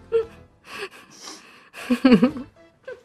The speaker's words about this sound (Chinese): 这是吸鼻子，真的很精髓。